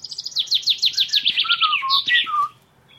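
A nightingale sings alone and clear: a fast run of repeated bright chirping notes, then a few lower, fluting whistles, ending after about two and a half seconds.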